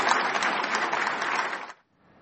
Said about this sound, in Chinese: 那我们看到呢，习近平宣布了这项决定以后呢，在会场上引起了热烈的掌声。